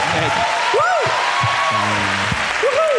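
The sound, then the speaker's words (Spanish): An audience claps steadily for about three seconds, a dense, even wash of applause, while a few voices rise and fall over it with short calls and bits of talk; it follows a host asking how many people know Ciudad Real, Spain. “¿Aplaudir?”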